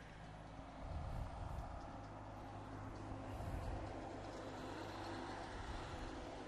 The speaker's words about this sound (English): Look, there's another car. What? What's up with that? There's too much traffic, man.